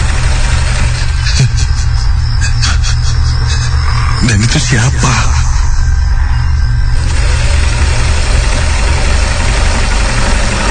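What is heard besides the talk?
sewing machine running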